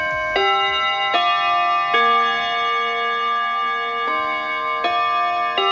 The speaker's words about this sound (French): Vous écoutez Radio Bonheur au carillon de Radio Bonheur et sur les montres qui marchent, il est 20h.